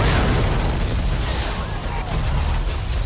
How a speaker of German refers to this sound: Hier ist Delta 984, mehrere Explosionen, wir brauchen Hilfe hier!